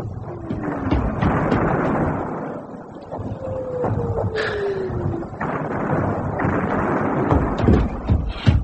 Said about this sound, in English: A message from Mr. Trotter, sir. Shells falling mostly behind the support line.